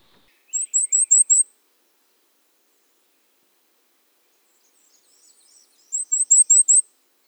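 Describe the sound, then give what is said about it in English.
A Cape May warbler sings twice, each song a quick series of about five very high, thin, evenly spaced notes, with a few seconds of quiet between them and no voices. “The Cape May warbler sings four or more high, simple notes that are evenly repeated.”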